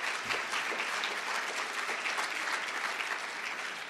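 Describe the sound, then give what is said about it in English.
A crowd claps steadily for the law firm Sutherland, thanked for its generous support of the library, a dense patter of many hands that holds an even, moderate loudness for the full few seconds with no voices over it. “So please, a warm round of applause for Sutherland for their generous support.”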